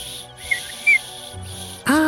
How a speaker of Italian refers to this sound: È un fischietto a ultrasuoni.